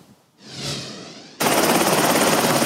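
A helicopter on a US Coast Guard rescue mission in Haiti after the August 14 earthquake, flying to Lecay: a turbine whine swells briefly, then a loud, steady roar of rotor noise with rapid rhythmic chopping takes over. No one speaks.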